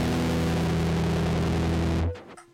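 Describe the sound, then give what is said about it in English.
A loud, heavily distorted electric guitar chord played through a distortion effect pedal rings out, thick and buzzy, sustained for about two seconds before being cut off sharply into a short fading tail. No one speaks. “And here's the distortion.”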